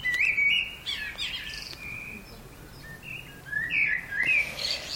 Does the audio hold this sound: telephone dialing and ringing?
no